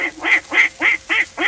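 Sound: duck quacking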